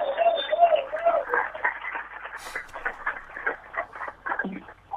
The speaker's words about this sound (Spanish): ¡Fuerte los aplausos!